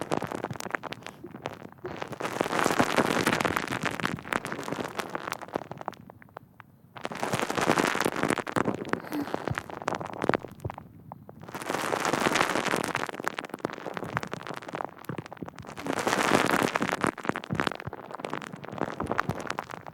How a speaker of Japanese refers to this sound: 泡がパチパチって弾けて、肌に浸透していくのを感じてね。